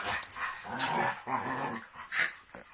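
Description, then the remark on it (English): Two dogs, Flashy and Denny, bark and growl in a rough, overlapping scuffle, with short yips and snarling bursts coming in uneven pulses over a few seconds. “These dogs are crazy.”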